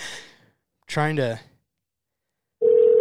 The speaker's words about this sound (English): I'm trying to get our Gary Copeland expert on the phone here. He is not answering.